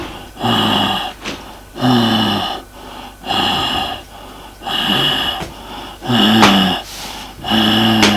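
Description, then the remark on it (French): A small whimpering moan repeats about six times in a steady rhythm in a bedroom, each one a breathy, voiced groan riding on the breath, with no talking. “Toujours le même petit gémissement.”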